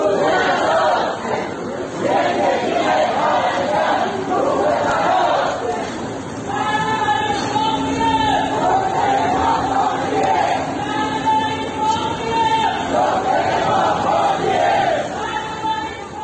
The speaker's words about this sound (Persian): بنابر گزارش‌ها گروهی از معترضان روز دوشنبه کادر درمانی بیمارستان امام خمینی بودند که با تغییر یک شعار قدیمی فریاد می‌زدند: عزاست عزاست امروز، روز عزاست امروز، زندگی پرستار روی هواست امروز.